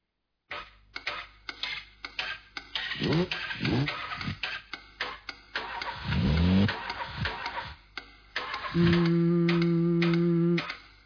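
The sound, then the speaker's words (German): A motor engine starts up with clattering ticks and rising, revving whines, then settles into a loud, steady droning hum near the end. No one speaks. “Machen Motoren Musik?”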